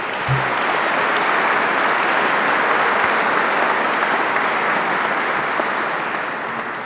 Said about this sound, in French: Je demande au lauréat de bien vouloir se lever et je vous prie de l'applaudir.